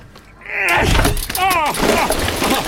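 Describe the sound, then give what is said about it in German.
A stuck refrigerator door in a basement is tugged with strained grunts and groans, then yanks open with a sudden loud thump, followed by sustained rattling and clattering as yogurt falls to the floor. “Die Kühlschranktür ist erst nicht aufgegangen und dann... Mein ganze Joghurt liegt auf dem Boden.”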